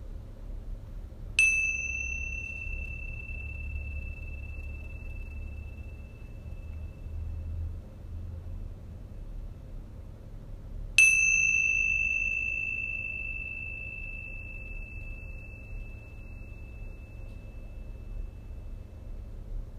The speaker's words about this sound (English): And then taking these first few moments to focus all your attention on the ringing of the bells.